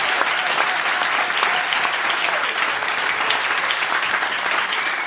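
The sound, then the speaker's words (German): Sustained applause from a large audience of FC Bayern Basketball fans at a live event in the canteen on the FC Bayern grounds, a steady dense wash of clapping at a constant loud level throughout with no pauses or voices standing out. “Ihr hört das schon.”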